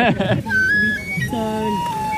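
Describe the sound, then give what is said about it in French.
Several flutes played by street vendors selling flutes sound at once, their thin sustained notes overlapping and sliding between pitches over a steady bustle of background noise, with a brief burst of voice at the start. “On est entouré par tous les gars qui vendent des flûtes.”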